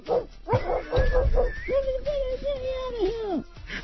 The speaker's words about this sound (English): Dude, dog in the trunk.